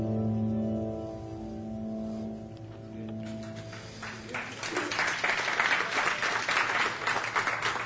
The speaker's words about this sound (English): I'm so glad you're clapping about that. That's a hard-hitting thing.